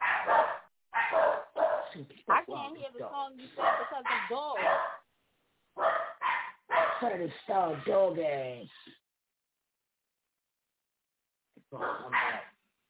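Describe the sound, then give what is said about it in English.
A dog barks and yips in rapid bursts, some with whiny rising tones, then falls quiet for a few seconds before one last short flurry. “Yeah, we're gonna put the dog in there.”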